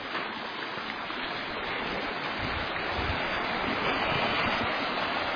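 flowing creek water

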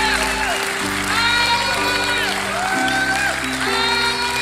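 audience clapping and cheering

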